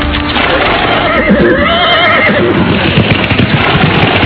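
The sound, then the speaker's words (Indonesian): A horse whinnies loudly while hooves pound in a fast, steady gallop, the clatter continuing energetic throughout the short stretch, as Adipati Pecatanda, ruler of Terung, hastily whips his horse and flees. “Kepala penguasa daerah Terung itu pun buru-buru menceplak kuda dan langsung melarikan diri.”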